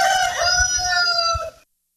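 A rooster crows once, a loud cock-a-doodle-doo held for over a second with bright harmonic tones before cutting off abruptly, followed by silence.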